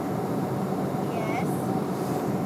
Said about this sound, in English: We are still on the plane, as in the first plane. That's obvious. The sound. On the first plane.